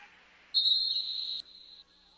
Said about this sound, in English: There's going to be whistle and a timeout as the Battlers want to talk things over. It is 9-9, all tied up here in Gettysburg.